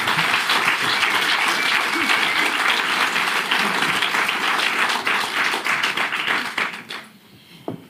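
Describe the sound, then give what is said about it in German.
Steady, dense applause from an audience, many hands clapping at once with bright crackling texture, holding loud for about seven seconds before quickly fading out. “Ja, Applaus für das.”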